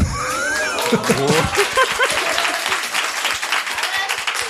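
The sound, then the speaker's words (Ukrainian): Steady audience applause with dense rapid clapping throughout, mixed with some cheering voices and a bit of laughter over the start, fairly loud and sustained. “Я на бачиш, як треба овації зривайся.”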